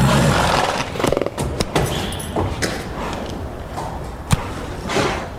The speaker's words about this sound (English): A lot of breathing. There was some traffic today, so I was out of breath when I got here.